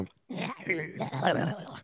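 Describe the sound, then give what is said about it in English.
A person's voice mimics a tiger's growl: a rough, throaty snarl rising and falling in two short bursts, fairly loud. “I can only assume that like tigers are like, that's Tasmanian devil.”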